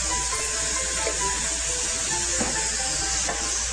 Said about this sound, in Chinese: 整个这个肉片一定要炒到熟哈，然后变得有一点白之后呢，好，才可以起锅哈，一定要熟。